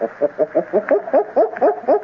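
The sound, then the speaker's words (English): A human voice imitates a gorilla's barking: a quick, steady run of about eight short, hooting, mid-pitched barks, each swooping slightly upward, fairly loud and with no other talking. “We must sound like them. Their barking is like this.”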